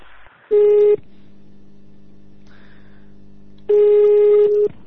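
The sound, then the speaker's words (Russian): Telephone tones of an incoming call: two loud, steady electronic beeps about three seconds apart, with a quieter continuous tone filling the gap between them. No one speaks. “Так мне он уже звонит.”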